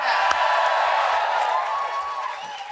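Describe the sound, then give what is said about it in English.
A live audience at the Listening Post stage of the Latitude Festival cheers and whoops through masks in one continuous, dense roar that holds steady throughout. A sharp shout or clap stands out near the start. “There we are, that is the noise there of people all cheering through their masks.”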